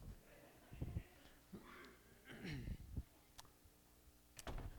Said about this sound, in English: But I'm going to shut this door.